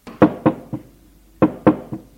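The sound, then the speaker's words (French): Two sets of three knocks on a door at 00:30, each quick trio starting strong and ending with a lighter tap, separated by a short pause. The knocks are sharp and solid, with no voices. “Il frappe à sa porte à 00:30.”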